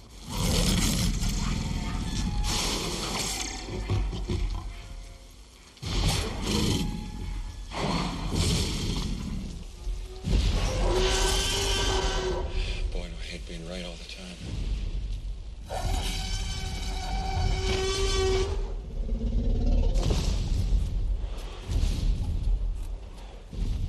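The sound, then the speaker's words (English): A film scene of a T-Rex emerging from a paddock in heavy rain as the wires come off, stepping out between two vehicles: constant rain hiss and deep thuds, building to two long, loud, bellowing roars, with no talking. “It's that terrifying moment the T-Rex emerges out of a paddock in the rain.”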